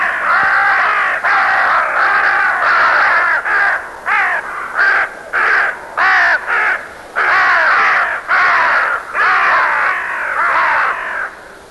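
Crows caw loudly and repeatedly, their harsh calls coming in rapid overlapping bursts for the whole stretch, as if several birds are calling at once.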